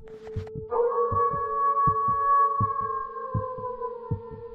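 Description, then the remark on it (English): A long, drawn-out wolf howl holds steady then slowly sinks in pitch, while a low, regular heartbeat-like thumping pulses underneath throughout. “Immediately after, we heard the response of another howl.”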